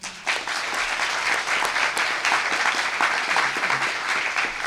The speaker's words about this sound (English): And I'd like to give a round of applause to the planet and everyone looking for a home upon it.